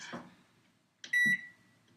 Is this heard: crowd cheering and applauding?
no